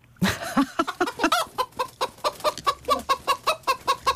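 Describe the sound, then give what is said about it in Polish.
A chicken clucks over and over in quick, steady bursts, clear, with a few higher squawks near the start and no voices. “Kura. Bardzo dobrze, Polu. To jest kura.”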